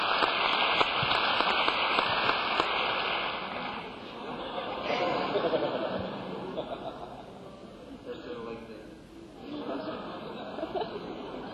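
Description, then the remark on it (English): Sustained audience applause, a dense crackle of many hands clapping that carries on throughout, easing slightly midway and then swelling again before trailing off. “I find applause. This is really going to sound crazy. Now, don't you stop.”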